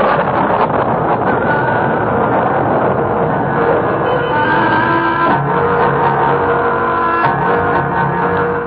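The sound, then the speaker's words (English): A loud, steady roar of storm wind during a lightning storm, with a few faint whistling tones drifting through it, continuous for the whole stretch with no voices. “There he goes, the storm breathes.”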